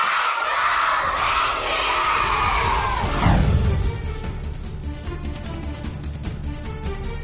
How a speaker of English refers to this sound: And the kicker and everybody on the team cheer! Yeah!